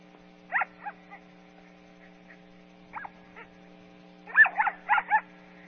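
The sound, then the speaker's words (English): A dog gives short, high-pitched play barks in irregular bursts: a couple near the start, two faint ones midway, then a quick cluster of four or five louder yips near the end, with a steady low hum underneath. “Right, and then here's the play bark.”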